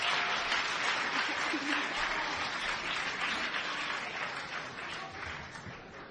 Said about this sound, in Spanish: Pues un fuerte aplauso para ellas y para ellos.